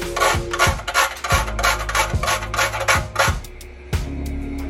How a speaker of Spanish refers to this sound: Y le voy a rallar un poquito de nuez moscada.